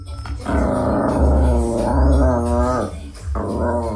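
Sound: dog growling and yipping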